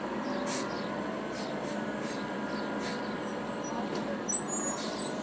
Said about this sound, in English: This bus is pulling out. It's on its way to the downtown terminal, which is about, I'd say, 10 minutes from this point in the bus.